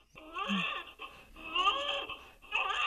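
A recording of a newborn's thin, high-pitched wail plays from Super Tori, a 40-week gestational newborn simulator mannequin, in three strained bursts with short breaths between, loud, slightly tinny as if from a small speaker.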